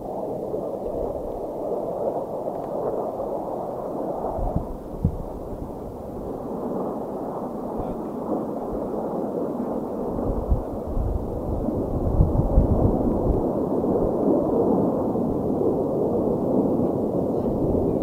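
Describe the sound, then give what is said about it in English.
A steady, broad rumble of several airplanes passing overhead, the low roar filling the scene and swelling louder toward the end, with no voices heard. “I hear airplanes. Here they come.”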